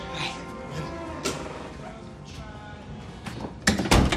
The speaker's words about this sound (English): Matt opens his apartment door.